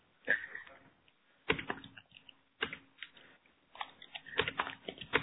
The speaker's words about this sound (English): We now hear someone typing.